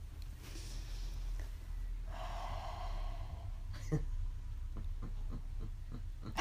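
Heavy breathing into the microphone, a long noisy exhale rushing through the middle, with a few short huffs and snorts near the end and no talking.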